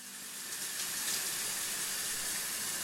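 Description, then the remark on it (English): Steady running water from a shower in a hotel room in Canada hisses continuously, a broad even wash of sound with no voices and no pauses throughout. “I'm in this hotel room, taking a shower, but I'm late for a meeting.”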